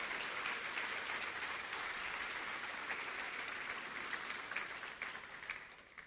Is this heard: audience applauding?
yes